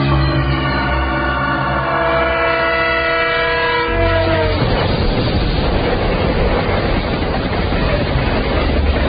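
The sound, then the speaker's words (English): A train on an elevated railway sounds a long, loud horn blast of steady tones, then its heavy rumbling clatter takes over and roars on continuously as it passes on the overhead tracks, with no voices. “Black sits on the curb in the shade of the tracks of an elevated railway with two other bits of flotsam.”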